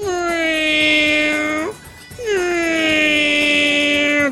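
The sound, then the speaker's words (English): A person imitates a cat in heat with two long, loud, drawn-out yowls, each sliding down then holding a high, strained whine, separated by a short breath. “The worst sound when a cat is in heat.”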